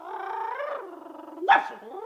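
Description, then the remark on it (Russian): A dog lets out a drawn-out, wavering whine-like howl, then one sharp, loud bark followed by a short trailing growl. No one speaks. “Он таким образом львов ищет по специальной команде.”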